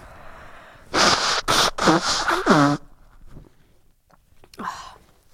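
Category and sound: human body sound, person blowing their nose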